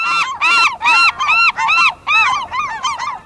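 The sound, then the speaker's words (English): Gull calls ring out in a rapid series of about eight loud, nasal, squealing cries, unaccompanied, each rising and falling in a steady rhythm. “Where spring brought the swoop of swallows, autumn poses the puzzle of identifying gulls.”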